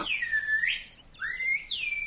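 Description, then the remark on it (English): A person whistles a birdlike call: two sweeping, swooping tonal phrases, clear and moderately loud, with no talking over them. “It was more like somebody mimicking a bird.”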